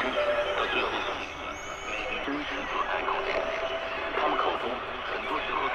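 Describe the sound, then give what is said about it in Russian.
Dense shortwave radio hiss and crackle fills the air steadily, with thin wavering whistles gliding high above and a garbled, unintelligible broadcast murmuring underneath. “Но вместо природных помех тут же попадаем на те, что сделаны человеком.”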